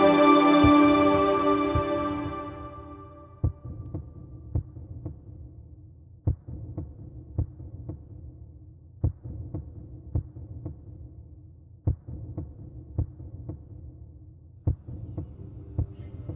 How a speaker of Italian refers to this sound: Senti il battito della terra.